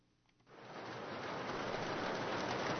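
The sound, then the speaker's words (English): Heavy rain starts up after a brief quiet moment, swelling into a dense, steady hiss and patter that lashes the exterior of the Sons of Norway Hall in Petersburg on the night of December 13th, with no voices. “Rain lashes the exterior of Petersburg's Sons of Norway Hall on the night of December 13th.”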